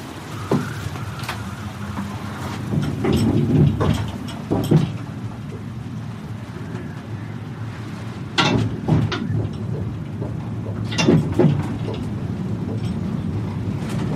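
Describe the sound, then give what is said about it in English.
A steady, low mechanical rumble with wind noise, broken by several loud creaks and clunks at irregular intervals as a suspended cable car rocks back and forth, swaying 50 meters above the ocean. “The cable car rocks back and forth, swaying 50 meters over the ocean,”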